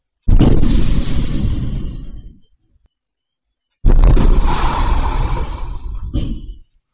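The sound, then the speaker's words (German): Two loud explosions a few seconds apart as a Deutsche Bank ATM is blown up, first the front and then the machine, each a sudden heavy blast followed by a rumbling, crackling decay of about two seconds, with silence between them. “Zwei Explosionen innerhalb von einer Minute. Erst die Front. Und dann der Automat. Die Explosionsgeräusche, die spielen wir jetzt auch einmal ganz kurz ein.”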